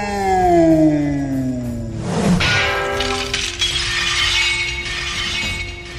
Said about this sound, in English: How did you do that? You shattered my katana.